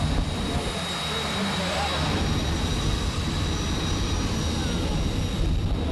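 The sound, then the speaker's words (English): Elaine Larson's jet-powered car races at 300 miles per hour, a loud, steady jet-engine blast with a piercing high whine that fills the whole stretch, and an indistinct voice buried beneath the noise. “the next thing you're going to hear is Elaine Larson racing her jet-powered car at 300 miles per hour”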